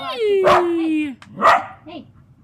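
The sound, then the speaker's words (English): A dog lets out two sharp barks about a second apart, the first riding over a long, steady whining tone that trails off before the second bark. “No, we knew that was going to be Dogland.”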